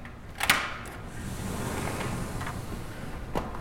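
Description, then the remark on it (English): A sliding glass door from Eisterhold's tasting room rolls open onto a balcony overlooking six acres of vines, with a sharp clack, then a steady airy hiss of open space fills the room before a second soft knock near the end. No voices. “The sliding glass doors from Eisterhold's tasting room give way to a balcony overlooking six rolling acres of still naked vines.”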